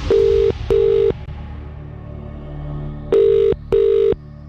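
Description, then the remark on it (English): A phone ringback tone as kmfm radio calls a randomly generated phone number, playing in two double bursts, two steady beeps, a pause, then two more, each burst a sustained mid-pitched buzz, loud over a low hum with no voices. “Number's been generated. It's time to call. Good luck if this is your phone ringing now.”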